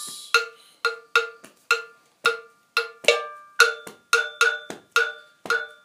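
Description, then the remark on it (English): A metal bell plays the most common Ghanaian bell part, a West African rhythm with a pulse of four, in a repeating pattern of about fourteen sharp, ringing clangs with quick decays, some strokes grouped in close pairs. The tone is bright and clear, with no voices. “So, just started off with the most common Ghanaian bell part, which goes...”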